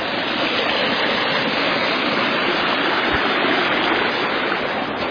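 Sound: flowing creek water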